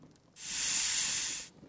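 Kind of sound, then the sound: animal, snake hissing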